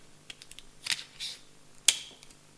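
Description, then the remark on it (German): Tesafilm adhesive tape crackles as it is pressed down and then peeled off, with two sharp ripping bursts among smaller clicks and rustles, with no talking. “Wenn du den hier hinklebst, erste Mal klebt er am besten. Seht ihr, kriegt es fast nicht weg.”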